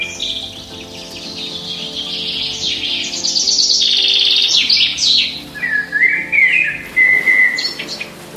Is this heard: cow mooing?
no